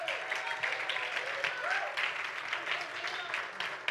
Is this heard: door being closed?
no